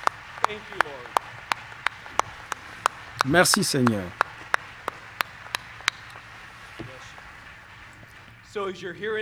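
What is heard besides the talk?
audience standing and applauding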